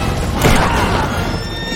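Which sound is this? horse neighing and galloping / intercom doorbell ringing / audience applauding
horse neighing and galloping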